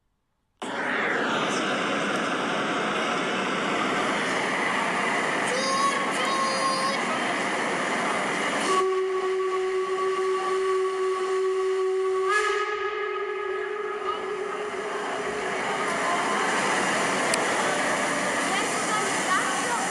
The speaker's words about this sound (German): Da kommt er an, der Zug, ruft eine elegant gekleidete Frau neben mir. Schnaubend rollt der Zug auf dem Bahnsteig. Rauch wird ausgestoßen und die Bremsen quietschen.